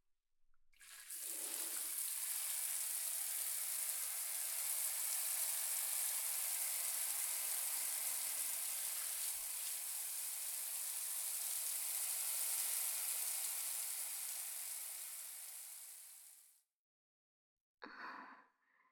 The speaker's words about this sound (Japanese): はい、とてもとても綺麗になりましたので、シャワーで洗い流させていただきます。